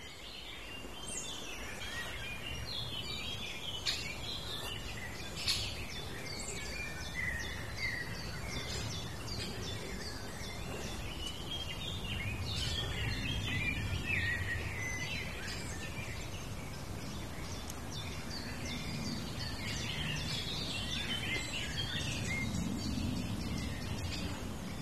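Outdoor birdsong fills the landscape, with a blackbird singing fairly high up and a chiffchaff's repeated notes among other chirps, set against a steady low background rumble; no one speaks.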